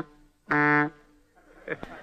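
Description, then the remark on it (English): An old-fashioned radio sound effect for a moving automobile: one steady, buzzing horn-like honk, then a low, quiet rumble and a couple of sharp clicks near the end. “Yesterday in radio, a moving automobile sounded like this.”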